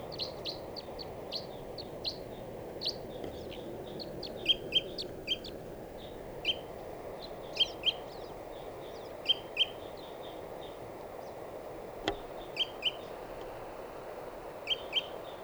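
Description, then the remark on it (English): Repeated high, sharp calls of a wild bird that swooped around and is in a dead tree ring out in short bursts and quick pairs over a steady low hum of background noise, with no talking. “And the bird came in and swooped around.”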